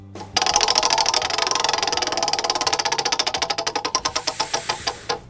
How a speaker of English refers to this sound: go ahead and spin that wheel.